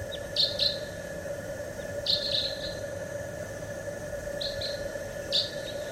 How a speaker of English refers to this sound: Wild bird. Wild.